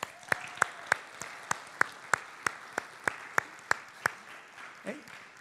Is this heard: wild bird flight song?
no